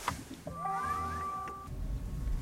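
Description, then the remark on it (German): A small electric car is started by turning the ignition key: a click, then a soft electric whine rises in pitch and holds steady for about a second before fading into a low, quiet hum. “Das kleine Auto schnurrt sanft vor sich hin.”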